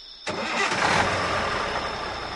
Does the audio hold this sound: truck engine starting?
yes